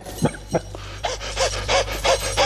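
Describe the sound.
A dog sitting in the heat and suffering from thirst pants in quick, rhythmic breaths, about eight airy huffs in steady succession, fairly loud, with no talking.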